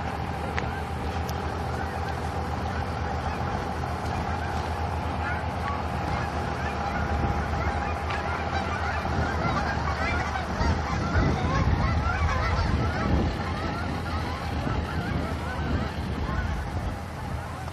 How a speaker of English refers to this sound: Come some geese.